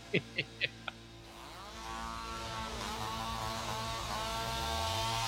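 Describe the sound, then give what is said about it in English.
A chainsaw engine starts up after a few short sharp bursts, then runs steadily with wavering, revving pitch, loud, growing slightly louder toward the end. “Leave the chainsaw home, though.”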